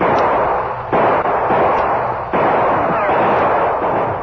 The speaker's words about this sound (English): The outlaws were between Bert's gunfire and that of the Lone Ranger and Tonto.